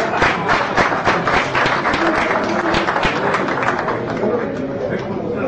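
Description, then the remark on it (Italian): An audience at a meeting applauds steadily for about five seconds for the newly named president, a dense, loud wash of many hands clapping at once, with some indistinct voices mixed underneath. “Facciamo un applauso allora, Presidente, perché è il vostro.”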